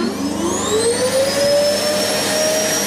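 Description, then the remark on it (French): A vacuum cleaner runs loud, its motor whine climbing in pitch as it spins up over a steady rushing roar, with no voices. “Un symbole trouvé sur un aspirateur par Margaret Young, la grande sœur d'…, les deux fondateurs du groupe.”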